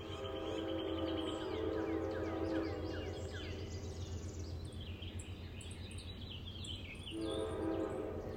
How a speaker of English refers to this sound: Oh, and the train? Let's stay for a train whistle or two, shall we?